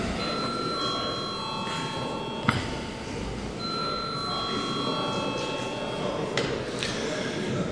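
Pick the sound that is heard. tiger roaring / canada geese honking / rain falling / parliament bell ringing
parliament bell ringing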